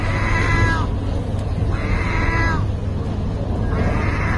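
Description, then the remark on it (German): A gull standing in front of a feeding machine for stray cats in Turkey, filmed on a phone, gives three drawn-out, wavering mewing calls that sound much like a cat's meow, evenly spaced over a steady low background hum. “Eine Möwe, die wie eine Katze klingt?”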